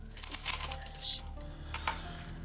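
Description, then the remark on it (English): Quick, irregular keyboard typing in a saloon: soft clicks and taps scattered over a couple of seconds, a few sharper strokes standing out above a low steady hum. “In the saloon, Chris types intently.”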